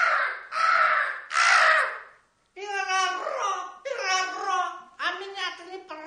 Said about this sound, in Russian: И ты, ворона.